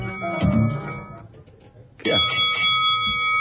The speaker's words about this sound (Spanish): Es una campana.